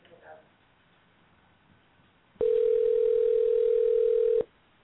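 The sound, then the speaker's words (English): A single loud, steady telephone ringing tone sounds for about two seconds, like the ringback on an outgoing call, after a brief faint murmur of speech at the start. “I hope it doesn't go to voicemail.”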